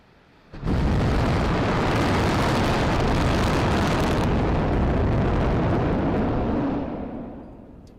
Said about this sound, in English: But let's listen in and watch a replay of this 31 engine static fire on Booster 7.